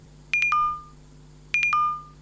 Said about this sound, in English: But anyway, we are coming up to 2 o'clock, so you can hear what the 2 o'clock hourly chime sounds like.